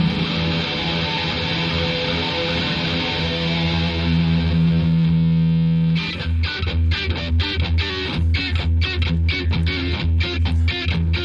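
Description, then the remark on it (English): An electric guitar plucked with the thumb, playing a dramatic intro: a long, sustained ringing chord for about six seconds, then a run of punchy, rhythmic plucked notes and chords, loud and with no voices. “He's using his thumb.”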